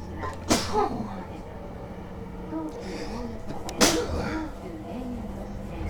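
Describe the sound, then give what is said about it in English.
Two sharp, explosive sneezes about three seconds apart, each with a brief voiced tail, over a steady rumble of background noise in a train station. “Okay, here comes another one. Hold on. Nope. It died on the vine. Am I allergic to this train station?”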